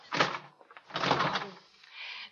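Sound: door closing shut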